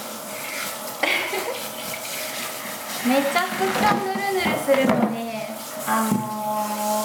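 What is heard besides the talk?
shower water running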